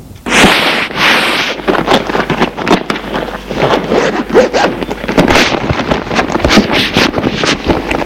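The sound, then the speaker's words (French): A suitcase is unzipped in a long, rasping pull, followed by rustling and shuffling as the lid is opened, with no talking. “Ouvrir sa valise.”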